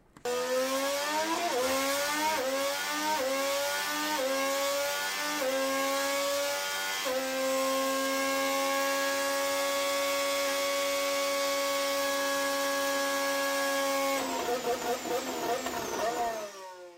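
A high-pitched Honda racing engine, the engine sound for 2026 released in a short video, screams up through several quick gear changes, holds a loud sustained wail, then drops into choppy downshifting blips near the end. No one speaks.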